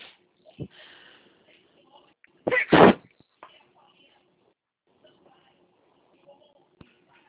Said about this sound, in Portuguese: Oi, desculpa que me deu vontade de espirrar.